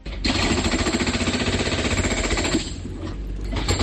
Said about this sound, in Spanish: Es el taladro de una de las máquinas de la empresa Viaqua en las últimas horas en esta zona entre Castrondouro y Compañía de María.